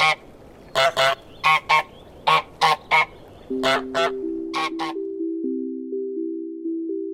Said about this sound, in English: used a recording of a French Toulouse goose for an all-new squeaky honk, which adds even more charm to the game's unique sound.